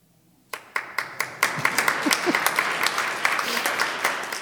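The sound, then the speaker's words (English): Applause breaks out suddenly after a quiet moment, starting with a few sharp claps that quickly swell into steady, dense clapping from a crowd, with faint voices mixed in. “Not used to so much applause.”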